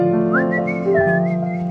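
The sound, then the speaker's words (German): A short whistled melody of a 1980s rock ballad, whistled somewhat wrong, clear, with the tune rising and sliding between a few sustained notes over a steady low tonal hum, with no talking. “Der war falsch gepfiffen, aber.”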